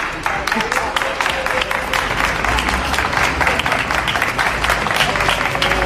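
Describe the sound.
A group of people applauding together, steady dense clapping sustained throughout at close range, with a low background murmur of voices underneath.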